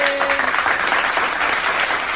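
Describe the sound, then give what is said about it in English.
A burst of loud, dense clapping fills the whole moment, many hands applauding at once, with a brief tonal note fading out at the very start. “That was a loud clap.”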